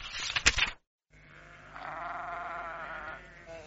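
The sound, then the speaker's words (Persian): A short burst of noisy rustling gives way, after a brief silence, to a single long, wavering bleat from well-fed sheep in warm weather that rises and trembles for a couple of seconds, clear. “خب گوسفندان عزیز و گرامی من، اکنون که شکمتان سیر شده و هوا نیز گرم، می توانید هم شما به زیر این سایه خنک بخوابید هم من.”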